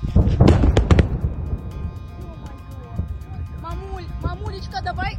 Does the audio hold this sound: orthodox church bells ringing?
no